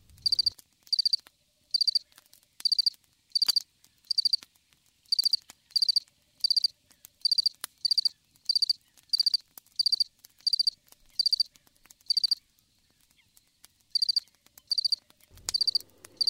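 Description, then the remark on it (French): A house cricket by a hearth chirps steadily, with short shrill trills repeating at a regular pace, roughly one every second, clear against an otherwise quiet background with no voices. “Et seul le petit grillon du foyer chantait encore.”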